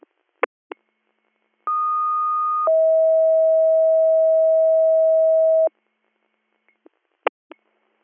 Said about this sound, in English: dispatcher tones.